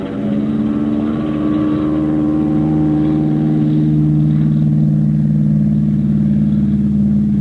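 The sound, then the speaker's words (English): A fighter plane's piston engine roars loud, holding a steady, throbbing drone that swells slightly as it revs up for takeoff, with no voices. “I gave her all she could take and got off the spot after I'd gone about 200 yards.”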